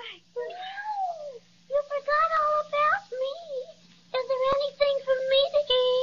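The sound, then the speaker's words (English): A little cat meows plaintively several times in a row, fairly loud, the drawn-out whiny cries rising and falling over a faint steady hum. “Well, I didn't mean to overlook you, little fraidy cat.”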